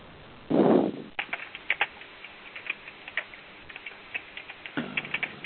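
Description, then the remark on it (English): Irregular clicking keystrokes on a computer keyboard, fairly quiet, tapping in uneven bursts after a brief louder rush of noise near the start; no one speaks. “While you're typing, can I ask a basic technical question?”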